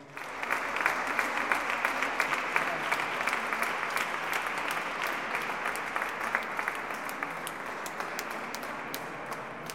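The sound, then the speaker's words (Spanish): A crowd applauds steadily for about ten seconds, a dense wash of many hands clapping at an even, fairly loud level with sharp individual claps popping out, and no talking over it. The applause is for the musicians at an evening concert in a church in Íllora, marking the fifth centenary of Saint Teresa of Ávila. “Yo también quería pedir un fuerte aplauso para mis músicos.”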